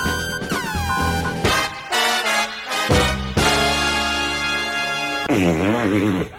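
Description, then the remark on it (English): A run of loud, buzzy fart sound effects, one after another, with wet brassy tones sliding down in pitch and a long warbling fart at the end. Nobody talks. “I think that was a nice juicy fart.”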